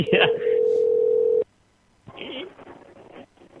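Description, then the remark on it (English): A phone line goes dead after a hang-up: a loud, steady electronic tone hums for about a second, cuts off abruptly into silence, then faint muffled voices and line noise return. “Nope, just hung right up.”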